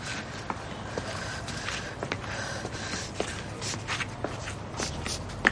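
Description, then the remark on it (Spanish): A woman's footsteps walk away at a steady, unhurried pace, the individual steps soft, over a constant murmur of outdoor background noise. No one speaks. “Se gira y se aleja dolida.”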